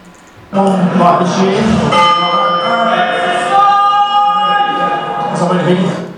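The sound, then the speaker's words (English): A loud prison bell, sounded many times a day, rings continuously and close by, a sustained metallic clang with a steady ringing tone that starts abruptly and holds for several seconds before fading slightly. “interestingly and quite unusually in this day and age, HMP Midtown has a bell, which I am going to play you.”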